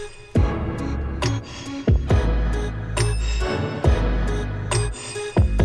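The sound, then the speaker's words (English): Cutlery clatters down in a series of sharp, ringing metallic crashes, spaced irregularly over a loud, throbbing low-pitched musical drone, with no talking. “Some dropping some cutlery after that, too, over the top.”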